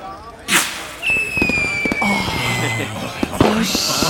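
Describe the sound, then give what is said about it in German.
New Year's fireworks rockets go off from a balcony: a sharp bang, then a long, slowly falling whistle amid scattered crackles, and a second loud burst near the end, with voices murmuring underneath. “Ja, wir machen das Feuerwerk auf dem Balkon.”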